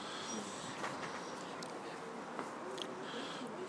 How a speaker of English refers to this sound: because we heard a ghost whistle. We think the train is on its way.